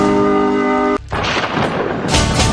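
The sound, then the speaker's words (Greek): A sustained tonal chord cuts off abruptly, giving way to loud rolling thunder with crackling bursts that swell again near the end, heard alone without any voices. “Καταιγίδα.”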